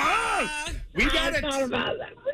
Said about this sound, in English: That was my toddler who was having a meltdown.